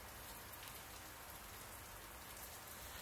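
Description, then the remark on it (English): Steady rain that started suddenly falls and patters on a surface where people are camping with tents and hammocks, a dense continuous hiss of drops with no pauses, fairly quiet overall and with no voices. “I know, you all said to pack for rain just in case, but I didn't want to carry a rain fly all the way here, and the weather said that the rain was unlikely.”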